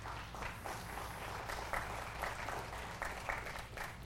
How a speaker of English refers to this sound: So just give them a round of applause for these. These are really neat.